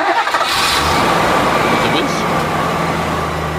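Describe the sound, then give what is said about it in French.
A Ford diesel pickup truck engine cranks briefly and catches, then settles into a loud, steady rumbling idle with a gritty clatter that continues to the end. “Non, c'est un diesel. C'est un truck diesel. Bon, c'est un pick-up. Un pick-up diesel.”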